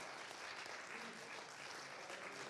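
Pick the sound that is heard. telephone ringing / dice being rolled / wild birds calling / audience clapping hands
audience clapping hands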